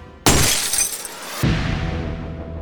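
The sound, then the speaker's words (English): A light bulb in a bedroom bursts with a sudden sharp pop, followed by about a second of bright, crackling glass shattering, then a steady low rumble lingers as the tinkling fades. “He'd gone to bed hours beforehand, but just as he'd started to doze off, a light bulb in his bedroom exploded.”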